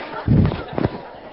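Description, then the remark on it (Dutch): A cannon shot sound effect, played by accident while scrolling: a deep, heavy boom followed moments later by a shorter second thump, fairly loud, with no one talking over it. “We hadden onbedoeld een kanon, denk ik.”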